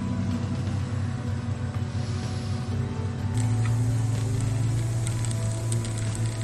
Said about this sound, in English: Doing this with wet brakes makes for a very noisy video, as you can probably hear.